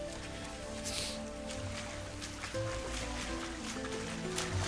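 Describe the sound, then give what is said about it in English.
A swimmer splashes steadily through water toward the shore, with a sustained tonal hum underneath throughout. “A swimmer splashes through the water toward the shore.”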